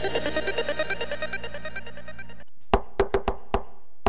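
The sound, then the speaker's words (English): A burst of bright, ringing musical tones fades out, followed by a short silence and then about six sharp knocks on a door in an uneven rhythm, in a North Manchester FM radio broadcast. “That's right, folks, there is somebody at the door, and today at the door, in the studio, live in the studio at North Manchester”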